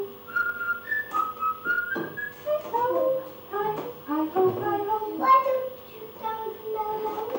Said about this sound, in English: Well, there is no rest. They just whistle. Hi ho, hi ho, hi ho. It's home for work we go. There's no words there. Just whistling.